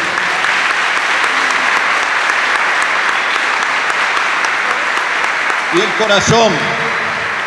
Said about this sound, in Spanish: No quiso cobrar un peso. Por eso hoy nos acompaña. También le pido un aplauso para él.